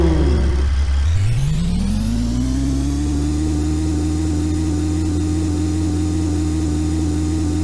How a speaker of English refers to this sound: Start your engines. 3, 2, 1, go!